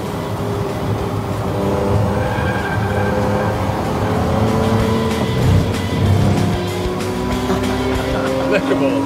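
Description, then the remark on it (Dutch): A high-revving car engine drones steadily on a race circuit, its pitch rising and falling with gear changes as it speeds along and overtakes Porsches, loud, with voices talking over the engine noise. “Ja, je haalt gewoon die Porsches in, man.”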